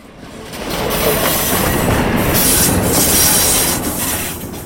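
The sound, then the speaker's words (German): A freight train of 30 wagons from Basel rolls into the Limmental shunting yard between Killwangen and Dietikon, Switzerland, in the evening, with a broad, steady rumble of wagons, faint metallic squeals and rhythmic clatter of wheels, loud throughout, with no voices. “Auf dem Rangierbahnhof Limmental kommt der Zug mit 30 Wegen von Basel an.”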